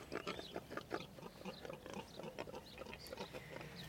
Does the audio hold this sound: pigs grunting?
yes